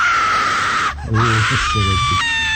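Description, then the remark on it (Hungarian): A loud, drawn-out wailing scream, pitched somewhat low and almost moaning, rising in short bursts over a constant harsh hiss, prominent for a couple of seconds. “Addig hallgassatok meg egy sikolyt.”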